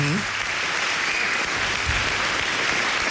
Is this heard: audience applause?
yes